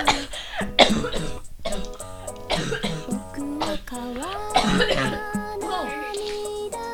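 A person coughs repeatedly in a series of harsh bursts, some with a strained, voiced rasp and throat clearing between them. The coughing fit continues unevenly for several seconds.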